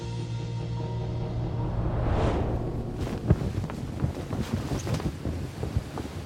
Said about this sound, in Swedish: Medelhavets vindar stryker över Siciliens kuster och böljande fält i oktobersolen på hösten år 1347.